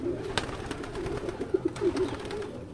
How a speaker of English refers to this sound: Three large taupe-colored pigeon lofts are all in a row. It's home, the place that draws these birds back again and again across hundreds of miles.